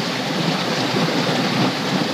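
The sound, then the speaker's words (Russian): Very clean river water rushes and roars in a steady, loud, dense wash of noise, unbroken, with no voices over it. “Такие зеленые островки, вода чистейшая, шумит всей своей мощью.”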